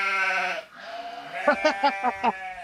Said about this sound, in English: So, is that a sheep? It's our sheep.